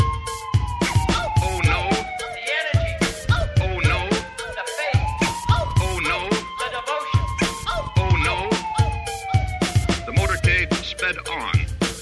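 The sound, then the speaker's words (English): An ambulance siren wails steadily, its tone rising and slowly falling, amid loud, choppy bursts of crowd or street noise that nearly drown it out. “Here is the ambulance.”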